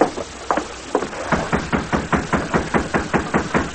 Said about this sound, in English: Riding through vacant lots and alleys, they soon reached the rear of the jail. Oh, steady. They dismounted and knocked on a back door.